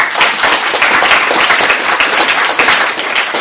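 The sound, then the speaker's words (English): A crowd applauds steadily and loudly for a woman who went on a trip with the speakers, a dense wash of many hands clapping that holds its intensity without pause for a few seconds. “I want y'all to give a round of applause for Charlotte”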